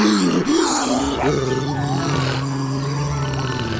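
A jaguar's deep, rumbling growl-roar at the Paris zoo, loud and sustained for a few seconds with a rough, throaty texture and no talking over it.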